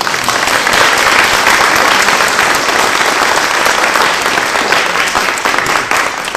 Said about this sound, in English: First of all, I'd like to thank the wonderful singers of the Effort of Cloister Chorus for making the long trip into Philadelphia to be with us tonight. We all give them a round of applause.